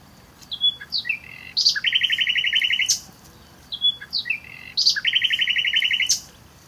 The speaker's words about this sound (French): Même s'il ne s'agit que d'un aperçu, vous aurez compris que le rossignol Philomène a un sacré beau brin de voix. Il est assez facile de reconnaître son chant du fait de la multiplicité des phrases, des trilles, des sons